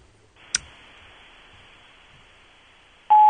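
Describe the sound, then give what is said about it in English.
A sharp click, then a long pause of faint hiss on an open line before a loud, steady electronic tone sounds at the end: a voicemail answering machine's record beep following an outgoing message. “There was a long Where pause the before the beep.”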